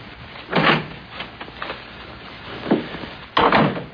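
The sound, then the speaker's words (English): A door opens with a few rough, scraping bursts spaced out over several seconds, moderately loud, with quiet background noise in between and no talking. “Well, open the door.”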